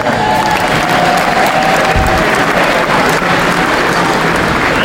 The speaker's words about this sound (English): Chapter Chair, is with us this very evening, so she heard the applause.